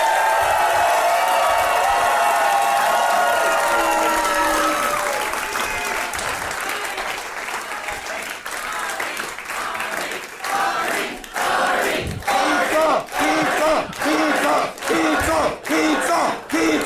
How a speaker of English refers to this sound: And please, please give it up, the biggest round of applause you can muster